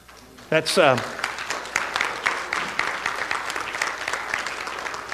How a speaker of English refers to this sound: Those are tremendous golf claps you just got. That's so nice.